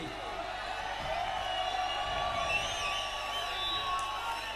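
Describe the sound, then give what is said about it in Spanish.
A large audience shouts "Uha!" together in a chant, a dense, steady wall of many voices that stays loud and unbroken for the whole few seconds, with no single speaker standing out. “Quiero iros gritar conmigo: ¡Uha! ¡Uha! ¡Uha!”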